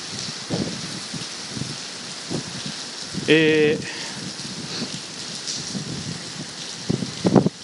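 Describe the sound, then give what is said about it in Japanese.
Heavy rain pours steadily in a dense hiss as a storm nears its peak of wind and rain in the Mikawa region of Aichi Prefecture, Japan, recorded while sheltering from the rain on a bicycle ride home, with a brief metallic ringing clatter midway as the bicycle falls over, and faint murmuring voices underneath. “108号室のある愛知県三河地方はまもなく風と雨のピークを迎えようとしておりますが、このタイミングで会社から帰宅指示が出まして、自転車にて帰宅途中、雨宿りをしつつ録音をしております。”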